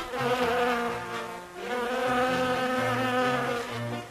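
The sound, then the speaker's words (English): A steady buzzing of bees in a garden drones on for several seconds, briefly dipping before swelling again, with a low tone shifting beneath it. “Look at those bees. They work very hard in the garden.”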